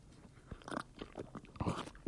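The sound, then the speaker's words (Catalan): Intense slurping of water by someone who badly needed it, a run of wet, noisy sucking bursts that swell and fade over about two seconds, with no talking. “Anem a una xarrupadeta intensa de com necessitava l'aigua i la vull disfrutar.”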